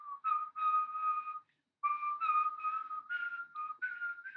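A person whistles a bright pop melody, clear, with sustained notes stepping up and down, a brief pause about a third of the way through, then the tune continues.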